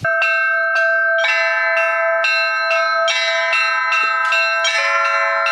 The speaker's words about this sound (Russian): Прихожане храма Серафима Саровского не могли сдержать слез радости. Наконец храм обрел голос. Отныне верующих на богослужение будет созывать дивный колокольный звон.